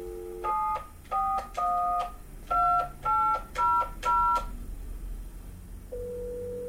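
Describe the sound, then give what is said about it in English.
A phone number is dialed on a touch-tone keypad to make a prank call: a quick run of about eight loud, beeping dual-tone key presses, followed after a pause by a steady, lower electronic tone. “Prank calls. I make a lot of prank calls.”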